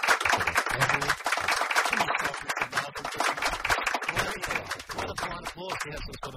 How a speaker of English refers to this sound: So. That's, that polite applause was so Sheffield Shield. It certainly was.